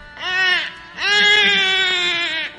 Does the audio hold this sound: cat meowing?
no